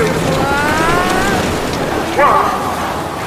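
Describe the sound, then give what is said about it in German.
A boat rushes through water with a steady, loud wash of spray and engine noise, heading toward the start line at the start of a boat race and coming straight toward the listeners. Brief voices cut in faintly over the churning roar. “Das Boot, da kommt direkt auf uns zu.”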